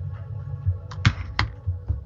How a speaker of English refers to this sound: He's typing. I love it when he's typing because it's like I'm listening to God.